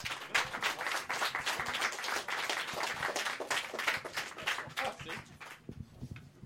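An audience applauds with dense, steady clapping that stays strong for about five seconds before thinning out and fading near the end. No one speaks over it.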